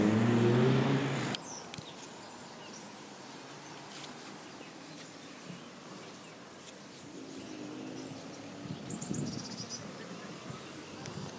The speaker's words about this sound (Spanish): Y esto es una mezcla de viento, pajarillos y tráfico, porque bueno, Gdynia está lleno de vegetación. Otra cosa no sé, pero desde luego tiene muchos árboles y mucha vegetación.